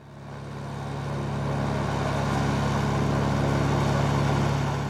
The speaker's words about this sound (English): That was a Russian army helicopter flying low over the Siberian forest. The troops were coming to firefight because in the summer of 2019, the trees were burning.